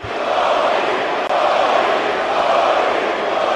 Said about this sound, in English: Those are the chants of the crowd attending the Lakers game last Friday at Staples Center, the first played since Kobe Bryant's death in a helicopter crash a week ago.